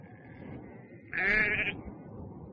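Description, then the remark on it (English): A single loud, wavering sheep bleat rings out over a low, steady background murmur, preceded by a fainter, thinner bleat. “In a distant country, there was a boy.He looked after sheep.”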